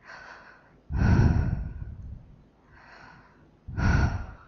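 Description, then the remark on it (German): Slow, deep breathing with no talking: two cycles where a softer drawn-in breath is followed by a heavy, loud exhale. “atmet tief.”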